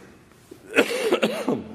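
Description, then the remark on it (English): A person coughs, a couple of rough, throaty bursts in quick succession, fairly loud with no talking. “I'll just keep coughing.”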